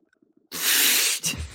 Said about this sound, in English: Now I'm just going to take a big sip of tea and take a look at how the game went.